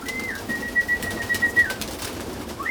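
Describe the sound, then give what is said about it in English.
Racing pigeons coo in a soft, continuous murmur inside a pigeon loft, while a man's long, steady high whistle, letting the birds know lunch is ready, rises and holds over them, then briefly returns at the end. “There's a ladder, a door, and a whole lot of cooing.”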